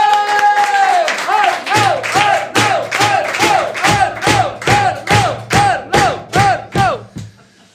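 A loud crowd applauds to welcome a guest musician, clapping in a steady, rhythmic beat, about two claps a second, while voices cheer and chant along in rising and falling swells before the applause fades out.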